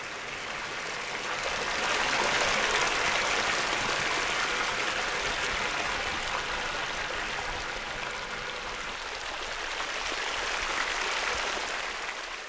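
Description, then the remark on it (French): Water flows steadily from a small, modest hot spring in the woods among groves and streams, smaller than the neighbouring Saint-Thomas spring: a dense continuous babble and trickle that stays fairly loud throughout, with no voices. “Au milieu des bois, entre bosquets et ruisseaux, trône fièrement la modeste source chaude.”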